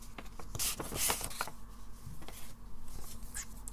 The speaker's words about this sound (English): So inside is another envelope with a cool seal with moon and the heart and some snakes on it. Open that envelope as well.